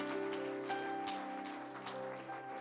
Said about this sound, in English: And would you like to stand as he comes today and make him welcome from Longview, Texas? Offer up that hand clap of praise to our Lord and Savior, Jesus Christ.